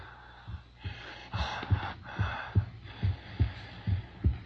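Ragged, gasping breaths of Frankenstein's creature coming alive, in the radio drama Frankenstein on Suspense, come in uneven bursts over a steady, thudding heartbeat, fairly loud, with no talking.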